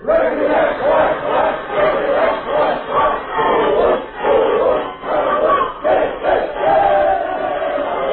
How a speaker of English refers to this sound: Here's the team, gang. Let's have a cheer for them. One, two.